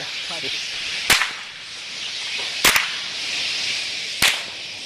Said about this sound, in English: Does it call for a crack of the whip now?